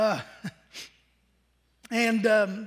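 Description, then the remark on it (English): A short, breathy sniff through the nose, heard once between bits of voice, followed by a brief pause before someone speaks again. “I can't get rid of these sniffles.”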